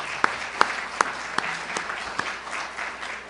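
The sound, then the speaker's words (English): Applause from an audience for a dean and another person, a steady wash of many hands clapping with a few sharp, loud claps standing out at the start before the clapping evens out. “So we do want to stop and applaud”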